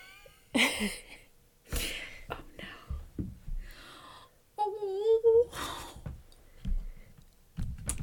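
cat meowing and yowling

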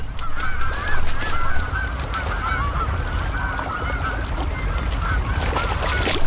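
cormorant colony calling

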